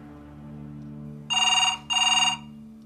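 A telephone rings in two quick, bright bursts separated by a short pause, loud over a low, steady background hum, with no voices.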